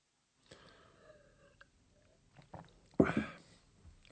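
Gulping a good mouthful of beer: quiet swallowing sounds, then a short throaty gulp and a louder breathy burst near the end, with no one speaking.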